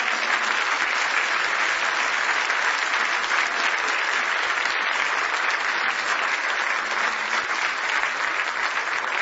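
Sustained applause from a church audience clapping in praise of Jesus fills the whole stretch, a dense steady roar of many hands clapping at once, loud, with no talking over it.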